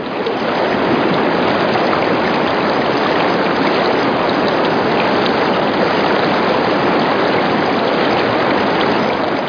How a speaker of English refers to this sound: New Zealand mountain rivers are really powerful, and before you cross one, you constantly have to look upstream and keep your eye on what the cloud formations are upstream, and trying to guess at whether there's going to be a sudden, you know, flush